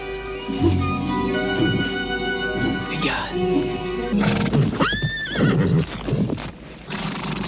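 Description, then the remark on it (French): A horse neighs loudly with rising, warbling whinnies while hooves clip-clop steadily, a voice murmuring briefly underneath; presented as Pegasus, the last of the winged horses, coming to drink at the water when the full moon shines. “Quand la pleine lune brille sur les eaux, on dit que Pégase, le dernier des chevaux ailés, vient s'y désaltérer.”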